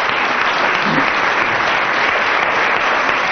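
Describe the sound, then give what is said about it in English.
Sustained audience applause, a dense, steady wash of many hands clapping at an even loudness throughout, with no pauses or talking over it. “aided by approximately 10 minutes of applause from the audience, you only get 3 marks there”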